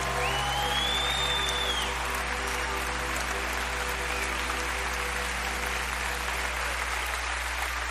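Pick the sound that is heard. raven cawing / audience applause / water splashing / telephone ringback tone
audience applause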